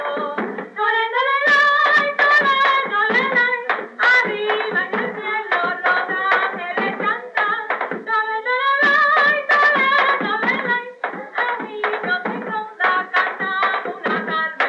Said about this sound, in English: All of the carols are sung in Spanish, some to the accompaniment of Spanish-style hand clapping, and others to the rhythm of a native drum, recalling the old days in Hispaniola, which have not been entirely forgotten.